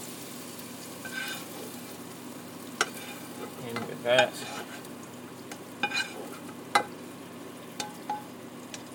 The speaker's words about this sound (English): Still a bit of sizzling going on in there. I don't know if that's just oil or if there's onions in there.